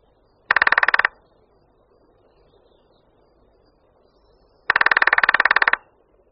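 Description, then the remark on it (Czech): Lesser spotted woodpecker drumming: two fast, even rolls of sharp taps, the first short and the second longer, each standing out loudly against a quiet background with no voices. “Slyšeli jsme bubnování nejmenšího z našich šplhavců, strakapouda malého.”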